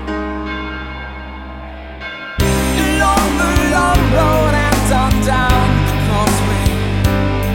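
A large bell strikes loudly a couple of seconds in, its deep, resonant tone ringing on and sustaining beneath a dense layer of music, with no voices present.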